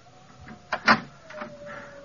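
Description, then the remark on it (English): A door is opened in the middle of the night with a short mechanical clatter and a sharp knock of the latch, set against a faint steady hum. “For mercy's sake, the door is open, but be careful, I have a stick.”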